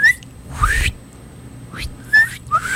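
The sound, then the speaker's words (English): Someone whistles a few short, chirpy rising notes on the radio, imitating a bird call, with brief pauses between them. “We're whistling in the radio now.”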